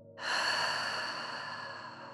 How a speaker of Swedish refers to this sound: Håll munnen stängd under din nästa utandning. Men föreställ dig att du andas ut med en öppen mun. Som om du ska fukta ett par glasögon för att putsa dem. Medan du andas ut ger du dig ifrån dig ett väsande.